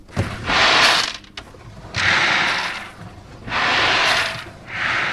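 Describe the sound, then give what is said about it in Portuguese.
A drawer holding a collection of marbles, one of more than 40 drawers made to be opened and touched to produce sounds, slides open in repeated strokes, a rolling, rattling hiss that swells and fades like sea waves washing in, with soft knocks between pulls. “É só o abrir da gaveta, mas tem esta associação para o som do mar, não é? Na verdade é uma coleção de berlindes, não é?”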